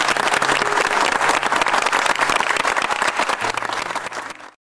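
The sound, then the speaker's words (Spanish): A studio audience bursts into sustained, dense, loud applause as a farewell tribute in front of and behind the camera, with many hands clapping steadily for several seconds before it cuts off abruptly. “te despedimos delante y detrás de cámara con el más grande de los aplausos.”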